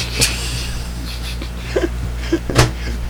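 A door bumps and clicks shut as someone walks out, with a sharp knock near the start and a louder closing thud toward the end, amid a few soft shuffling movements and a low steady hum.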